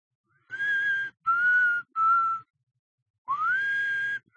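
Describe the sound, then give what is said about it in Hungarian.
Someone softly whistles a simple nursery-rhyme melody in four sustained phrases, each note held steadily with brief pauses between, alone with no talking. “három vakegér. Hogy is van a dallama? Halkan fütyülni kezdte.”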